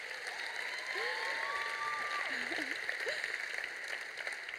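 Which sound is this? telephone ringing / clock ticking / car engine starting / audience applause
audience applause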